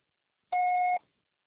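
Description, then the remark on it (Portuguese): A single steady electronic beep, about half a second long, at a fixed mid-high pitch with a fainter higher overtone, sounding alone before silence: a voicemail signal to leave a message, following the voicemail greeting. “Por favor, deixe seu recado após o sinal.”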